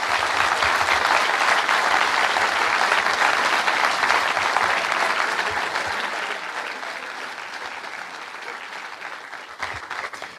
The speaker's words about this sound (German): Und da würde ich euch alle einmal ganz kurz um einen kräftigen Applaus für alle bitten, die hier mitgeholfen haben.